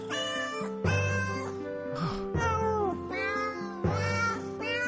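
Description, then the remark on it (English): Instruments in a piece of Christmas music play wailing, sliding notes that mimic a cat's meows, several drawn-out phrases in succession, loud, with sustained low tones underneath and no talking. “supposed to be a cat? They're torturing it.”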